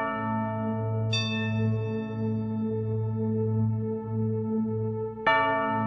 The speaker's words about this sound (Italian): Era il 26 dicembre 1605. Stava per calare la notte e da diverse ore le campane della Basilica di Santa Maria del Popolo scoccavano lugubri rintocchi per radunare gli abitanti del quartiere.